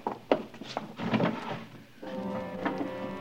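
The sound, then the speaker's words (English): A drawer holding a single black glove is pulled open, with a few wooden knocks and a scraping slide, followed by a steady low hum filling the rest of the moment. “Just one black glove in the drawer.”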